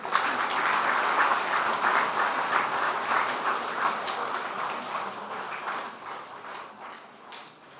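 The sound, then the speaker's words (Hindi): A crowd at Pandav Bhavan applauds a group holding its first retreat there, steadily, dense overlapping claps forming a loud wash that slowly thins and softens toward the end, with scattered individual claps standing out. “पहली बार की तो और तालियां बजाओ।”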